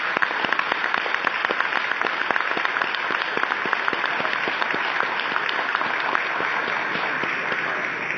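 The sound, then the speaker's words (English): A crowd at a Codex Commission session applauds the Netherlands government's work hosting the Codex Committee on Pesticide Residues, clapping steadily for about eight seconds, many hands in a dense, even patter at a constant moderate level with no voices over it. “Could we please clap for the good work?”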